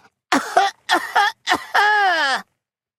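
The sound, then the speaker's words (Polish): A voice imitates a piglet coughing while sitting on a tree stump: three short, voiced coughs in quick succession, then a longer, louder, drawn-out cough that slides down in pitch, with no other sounds around it. “Przysiadł na pniu ściętego drzewa i lekko zakasłał. Po chwili kaszlnął raz jeszcze, tym razem głośniej.”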